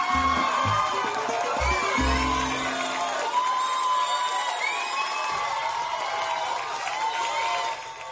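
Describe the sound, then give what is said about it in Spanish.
A loud ovation from a crowd gathered outside, with sustained cheering, whoops and shouts blending into a dense roar that holds steady throughout, with a few low thumps near the start. “¡Qué ovación!”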